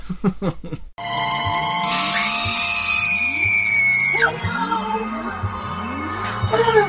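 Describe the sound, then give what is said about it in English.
A woman lets out a loud, piercing scream that holds for about two seconds, rising slightly before cutting off, over rhythmic electronic music with swooping sound effects; from the Doctor Who serial Terror of the Vervoids, the cliffhanger where a half-Vervoid woman looks out of an unzipped bed-like pod and screams. “in Terror of the Vervoids, the cliffhanger where the Doctor and Mel enter the room and unzip that bed thing, and the lady, half Vervoid, looks out and screams...”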